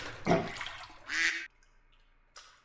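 A rubber bath duck floating in a filled bathtub with bath additive gives a couple of short squeaks amid light water splashing, with a brief quiet pause between them and a small final squeak at the end.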